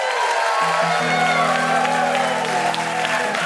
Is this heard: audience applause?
yes